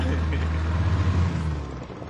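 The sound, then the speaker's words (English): A small, very rickety, overcrowded wooden boat's motor drones steadily on the sea by a reef as it labors against the swells, a low throbbing hum with rushing wash over it, holding an even loudness for a couple of seconds before easing slightly. “The way I would describe this boat is very, very rickety. And very overcrowded.”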